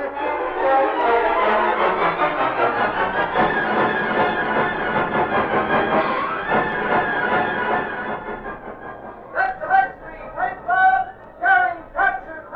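A train at a railroad station rumbles and hisses steadily for several seconds, then the noise thins into a series of short, rhythmic tonal bursts as it moves.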